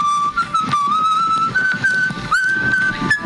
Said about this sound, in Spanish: Básicamente tú le pones el audio que quieres que te genere, ¿vale? Alguien silbando con el viento soplando.